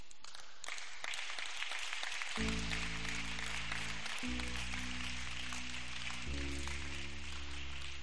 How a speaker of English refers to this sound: You know, clap for Elijah.